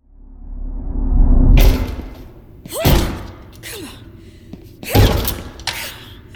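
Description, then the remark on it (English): Heavy thuds pound against a locked classroom door, about four loud blows at uneven intervals, with rushing noise and strained vocal grunts or gasps between the impacts. “The door isn't going to open”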